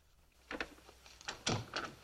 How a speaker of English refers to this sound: Into the lounge, shutting the door behind them.